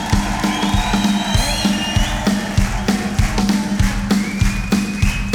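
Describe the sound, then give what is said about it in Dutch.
A large audience at a show cheers and whoops loudly and continuously for the people who worked on the show, with piercing whistles rising above the roar and steady rhythmic thumps beating underneath. “Dames en heren, laat je nog één keer horen.”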